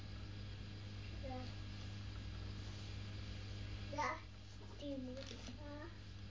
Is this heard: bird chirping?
no